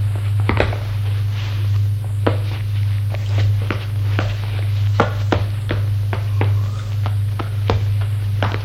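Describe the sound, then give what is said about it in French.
Footsteps of people walking without shoes back into an alley, at an unhurried, slightly uneven pace, each step a crisp tap, over a steady low hum with no voices. “Et retourne dans l'allée.”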